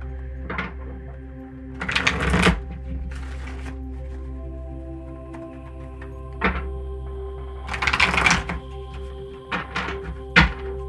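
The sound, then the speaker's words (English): A deck of Ascended Master cards is shuffled in two brisk, rustling bursts a few seconds apart, with soft taps and knocks in between as the deck is handled, over a steady low background hum. “So let me go ahead and shuffle the deck.”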